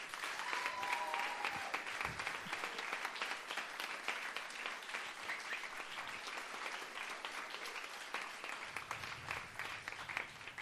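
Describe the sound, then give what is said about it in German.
A poetry slam audience bursts into sustained applause to vote for which act goes to the final, dense overlapping clapping that stays loud and steady for about ten seconds, with faint cheering mixed in. “klatscht Leute bitte jetzt!”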